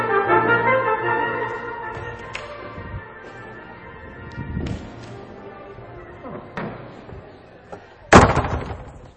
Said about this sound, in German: Ich schau mal, ob ich vielleicht eine Tür zumachen kann, obwohl es ja himmlische Klänge sind.